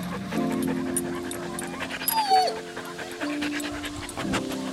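A dog pants rapidly and steadily, with drawn-out, high whining whimpers layered over the breathing throughout.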